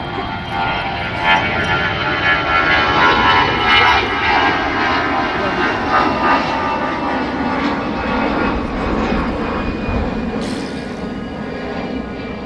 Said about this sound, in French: Alors là, on est sur la commune de Wissous. On est de l'autre côté du terrain d'aviation d'Orly. Juste en face d'Orly, et nous avons contourné donc le terrain pour pouvoir assister tranquillement au décollage des avions.